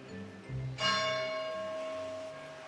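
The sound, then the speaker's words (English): A single large bell strikes with a bright, sudden onset, its rich harmonic tone ringing out and slowly decaying over a low background murmur, echoing across the campus of Trinity College, University of Dublin, in Dublin, Ireland. “On March 23, 2002, the bell echoes in the campus, welcoming back the young student who has been forcibly kept away from here for the past 2.5 years.”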